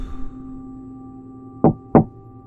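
Two firm knocks on a door, evenly spaced about a third of a second apart, clear over a steady low electrical hum in an otherwise quiet setting.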